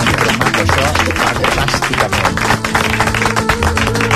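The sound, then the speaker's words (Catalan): A crowd applauds loudly and steadily, dense clapping filling the whole stretch without a break, with a low musical tone running faintly underneath. “Escolta, moltíssimes gràcies, un aplaudiment per aquest moment.”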